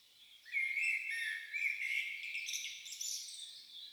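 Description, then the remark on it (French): A small bird sings a bright, high warbling song, notes rising and trilling continuously for several seconds, clear with no voices present. “Un petit oiseau chante.”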